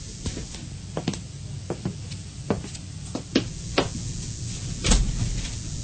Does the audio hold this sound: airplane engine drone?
no